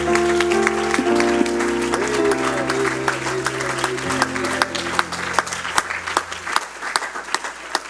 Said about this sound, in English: One more time, can we give him a hand clap of praise this morning?